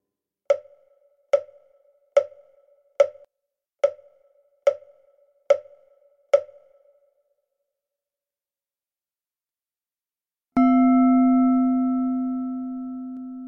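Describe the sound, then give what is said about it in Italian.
Eight evenly spaced sharp ticks, like a metronome, form an example pulse pattern in a listening test on counting phantom pulses, followed by a pause of silence, then a single sustained bell tone that rings out and slowly fades. No voices. “Il test richiede di indicare quante pulsazioni fantasma intercorrono tra la fine del modello e il suono della campana compreso.”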